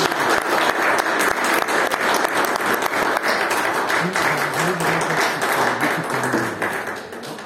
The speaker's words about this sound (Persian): تشویق داره دیگه، ما بالا به ما هم هدیه بدن، ما هم زیاد دوست داریم.